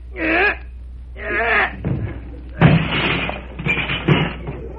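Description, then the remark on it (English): The stuck door of a house is pushed open with two drawn-out creaking groans, then a series of heavy bumps and scraping thuds as it gives way, loud. “I guess we can get through the door all right. Just help me push it a little.”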